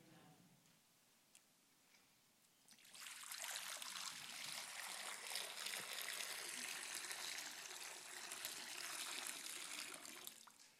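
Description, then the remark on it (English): After a few quiet seconds, blessed water for a church service begins pouring in a steady, continuous stream, a bright splashing rush that holds evenly until the end with no one talking. “This, as it stands, is perfectly blessed water.”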